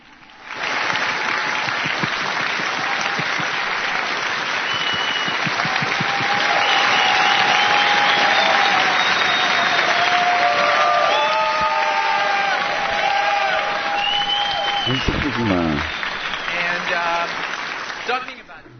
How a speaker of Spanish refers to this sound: Nosotros queremos dar un aplauso por todo lo que ha sucedido acá en estos días.